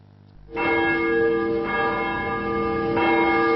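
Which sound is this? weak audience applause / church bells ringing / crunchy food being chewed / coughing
church bells ringing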